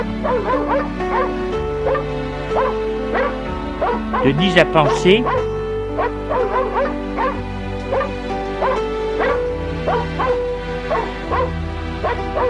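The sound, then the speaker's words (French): A dog named Caramel gives a string of small, excited yaps and whimpers of pleasure at being fussed over, with a brief louder flurry partway through, while a person speaks over the top. “Le chien fait des petits jattements pour montrer son plaisir.”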